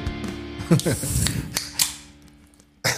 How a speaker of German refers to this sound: Du begrüßt uns heute mit dem Öffnen einer Dose.